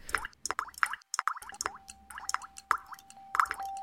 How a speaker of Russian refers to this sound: Ой, малыш, мы о воде вспомнили, и дождик пошел. Кап-кап. По щечкам, по березовым листочкам капельки в струйки собираются, лужицы водицей наполняются.